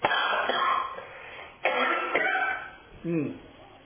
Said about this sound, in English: Take another cough right here.